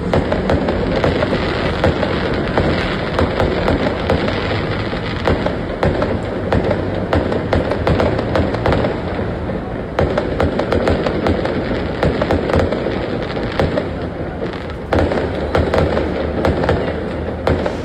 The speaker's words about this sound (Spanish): Digno de año nuevo, parece, porque de verdad que la cantidad de fuegos artificiales que se pueden ver en este video que nos envió el auditor es impresionante.